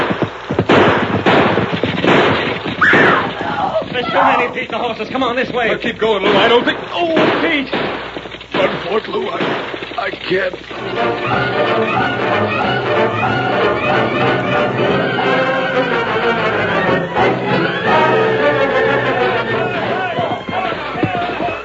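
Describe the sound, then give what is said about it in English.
A gunfight in a town: a burst of gunfire with many sharp, loud shots in rapid, irregular succession, giving way to a dense wash of overlapping shots and crowd-like commotion as the whole town is roused, continuing steadily to the end. “That gunfight has roused the whole town.”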